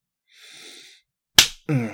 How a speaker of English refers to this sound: That's it. That's a good little slap.